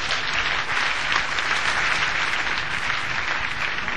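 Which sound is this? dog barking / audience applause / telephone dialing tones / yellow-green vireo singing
audience applause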